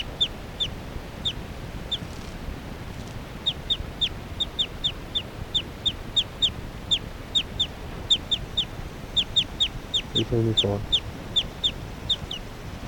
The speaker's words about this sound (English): Occasional chirps by 378 there.